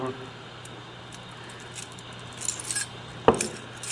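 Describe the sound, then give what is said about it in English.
A few bright metallic jingles of keys being handed over come in short bursts toward the end, with one sharper clink, all over a steady low hum. “Take my keys.”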